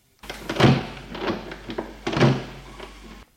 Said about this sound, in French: Regarde autour de lui, prend une clé de sa poche, de son blouson, tourne doucement la clé. Il entend des clics.